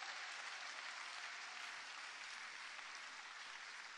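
An audience applauds at a church service to celebrate a reverend mother who has served in Ikoyi for 15 years, in a dense, steady roar of many hands clapping together, loud and even throughout, with no clear individual claps and no talking over it.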